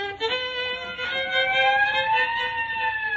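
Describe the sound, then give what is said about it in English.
The siren of a police squad car pulling up wails loudly and steadily, its tone gliding slowly downward over a few seconds, with a couple of brief bursts near the start and no voices. “I just started playing and already the neighbors got the police here. No, it's a squad car pulling up.”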